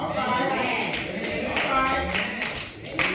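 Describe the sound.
An audience claps steadily, a dense, continuous patter of many hands that holds at an even loudness throughout, with crowd voices mixed in beneath the applause.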